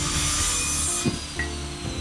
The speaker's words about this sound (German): Das ist eine Maschine? Eine Kreissäge? Langsam folgt sie dem Geräusch bis in einen Hinterhof.